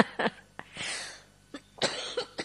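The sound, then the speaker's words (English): A series of harsh coughs in quick succession, with a breathy rasp between bursts and a couple of sharper hacks toward the end, no talking. “Sorry about this cough.”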